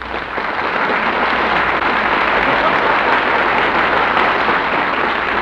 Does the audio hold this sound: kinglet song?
no